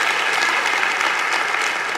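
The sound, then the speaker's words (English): Steady, dense applause from a sizable church audience at the Ark Church in Conroe, Texas, after a trumpet solo, many hands clapping at once in a continuous wash of sound with no clear individual rhythm, fairly loud and sustained throughout. “He tore that up, didn't he? That was, give him a hand clap.”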